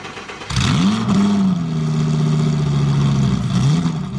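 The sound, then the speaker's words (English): A NASCAR stock car engine, with champion Jeff Gordon driving, roars to life and revs hard coming off the fourth corner, its deep growl rising and holding steady at high pitch, loud, with no voices. “The fearless driver of the roaring car is an American folk hero.”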